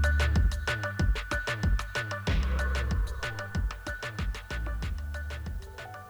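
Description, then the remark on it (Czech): Rhythmic instrumental music with a steady, driving percussive beat and sustained tones, playing alone at moderate volume and easing slightly softer toward the end as a guided movement session winds down. “Na závěr se stišující se hudbou si dovol zmírňovat intenzitu pohybu.”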